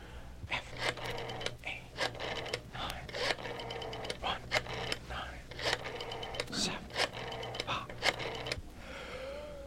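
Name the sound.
telephone number being dialed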